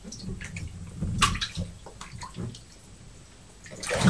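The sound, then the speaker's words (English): Bathwater sounds as a bathtub is topped up with hot water: intermittent splashing and sloshing in the tub, with a louder surge of running water near the start and end. No one speaks. “Right, so I think before the water gets too cold, I know we've topped it up with hot water, but I think we need to get your hair washed, don't you?”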